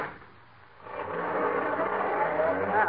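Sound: car engine driving off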